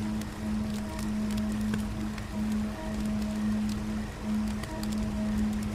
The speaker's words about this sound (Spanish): Parece ser que algún río cercano debe pasar por aquí. y junto a ese sonido de la corriente que fluye constantemente, un alivio en tu interior aparece.